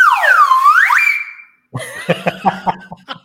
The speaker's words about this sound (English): Slide whistle, right?